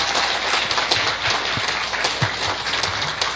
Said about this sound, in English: 好，最后给他们一个热烈掌声，给他们一个掌声。 Clap together, encourage them。